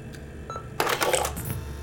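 A crisp Play button press on a video camera connected to a television: a faint tick, then a louder cluster of mechanical clicks and rattles lasting about a second, with no voices.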